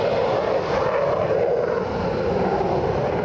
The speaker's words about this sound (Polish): Mogliśmy obserwować przylot łącznie 20 F-ów 15-tych i 4 F-ów 16-tych, które rozlokowane są po połowie w Łasku i w Krzesinach.